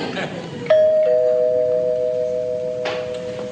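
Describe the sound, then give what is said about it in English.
A doorbell chimes with a clear, sustained two-tone ring that lingers for a few seconds, fairly loud over a faint background hum. “Did I ring your bell or was that the door?”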